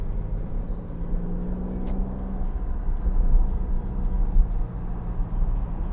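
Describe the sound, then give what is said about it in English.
A fast garbage truck's heavy engine rumbles steadily, swelling slightly louder midway as it drives past, with a deep low drone throughout and no voices. “That's a fast garbage truck, isn't it?”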